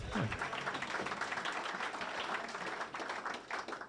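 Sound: audience clapping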